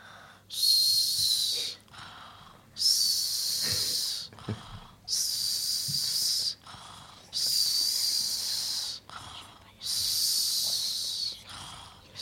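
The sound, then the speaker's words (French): A person imitates the high-pitched snoring of the character Mirabelle, with five wheezy, hissing breaths in a steady rhythm, each lasting about a second and a half, fairly loud, with no talking. “Moi, j'ai fait le ronflement de Viande de Mirabelle, du coup, c'était aigu.”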